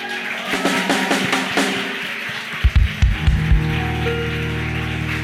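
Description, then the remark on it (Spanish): A crowd claps in a dense, crackling burst of applause for Jesus while celebrating fathers, followed by a few heavy low thumps as a steady, sustained low tone rises and carries on beneath the fading clapping. “Le quiere dar un fuerte aplauso a Jesús.”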